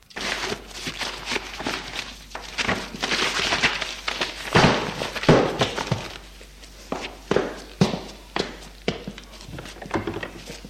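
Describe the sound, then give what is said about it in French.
A man's footsteps cross a still-dark room toward his desk after he turns on a light, a steady series of soft thuds with some shuffling and light knocks, no voices. “Il éclaire, soupire et va à son bureau.”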